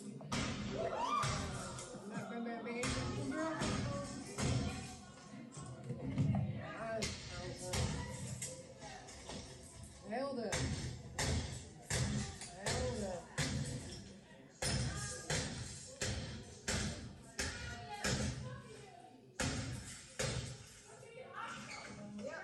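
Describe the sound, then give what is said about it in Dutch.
Heavy thuds and bangs of a door being kicked in, a rapid series of loud impacts mixed with people talking throughout. “Nee, schop de deur maar eerst open.”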